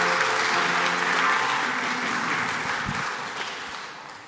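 Audience applause, a dense steady patter of many hands clapping that holds strong for a few seconds, then gradually thins and fades toward the end.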